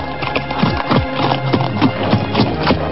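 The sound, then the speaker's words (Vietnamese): Steady clip-clop of horse hooves on a hard surface as two riders ride side by side, the animals walking in an overlapping rhythm, clear, with no voices present. “Hai người lặng lẽ cưỡi ngựa sóng nhau mà đi, không ai nói thêm câu nào nữa.”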